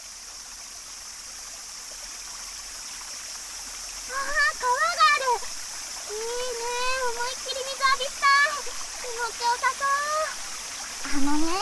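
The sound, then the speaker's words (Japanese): A steady rushing river in the countryside flows throughout, a constant hiss of moving water, while high-pitched voices, likely children, begin talking over it partway through. “子供だけで川に入っちゃダメって言われてるんだ。”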